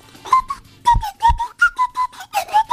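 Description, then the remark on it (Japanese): Someone whistles an imitation of the LINE app call ringtone: a bouncy run of about a dozen short, mid-pitched notes in a steady rhythm, with a couple of soft low thumps underneath. “それは LINE の電話ね。”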